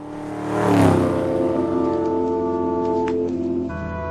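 A car engine revs up loudly and accelerates, its rising roar swelling within the first second and then holding a steady, strained hum before shifting gear near the end.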